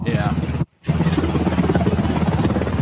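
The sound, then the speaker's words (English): A medevac helicopter lands to take Boo, a Border Patrol dog bitten by a rattlesnake, to the hospital: a loud, steady roar with a dense engine rumble and rapid rhythmic chopping, interrupted by a brief drop to silence early on before the noise resumes at full strength. “They are landing a medevac helicopter, dude, to take a dog to the hospital.”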